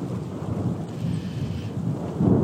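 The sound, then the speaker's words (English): Deep, continuous thunder rumbles nearly overhead, a low rolling roar that swells louder toward the end, with a faint hiss of rain in the background and no voices. “Thunder's still going.”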